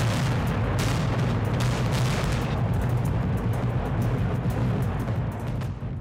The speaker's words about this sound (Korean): 네, 지난 5월 24일 북한이 풍계리 핵실험장을 폭발했습니다. 네. 이날 폭파된 시설은 핵실험장 2번, 3번 그리고 4번 갱도 그리고 지상 관측 설비 연구소와 관련 건물 등이다라고 북한이 이렇게 확인을 했습니다.